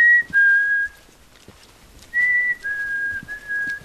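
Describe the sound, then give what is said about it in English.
A man whistles clear, steady mid-high notes in two short bursts: a pair of notes, a pause of over a second, then three more in a row, trying to call birds in while lifting a long-lens camera to photograph them in a lodgepole forest. No one speaks. “He turns on his heels, lifting his long lens to snap pictures of birds, trying to call them in.”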